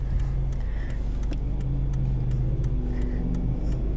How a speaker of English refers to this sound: Oh shit. There's a truck next to me. Okay.